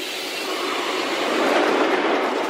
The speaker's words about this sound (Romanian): Totuși, când ajungem la ce era până acum capătul de linie, ne dăm cu toții jos din metrou.